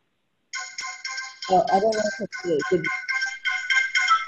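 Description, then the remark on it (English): A melodic phone ringtone chimes in quick repeating bursts, fairly loud, during a team call, while a voice briefly talks underneath partway through. “I wonder if somebody can mute their phone while we're on here.”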